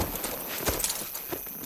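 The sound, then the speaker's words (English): A tied-up horse's hooves clop slowly and unevenly, a few distinct knocks against a steady background hiss, fairly clear, with no one talking. “That's his horse tied up over there.”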